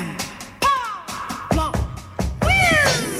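A cat named Cirilo, in Peru, meows three times in a row, fairly loud, each call a drawn-out cry that slides downward in pitch, with short pauses between them.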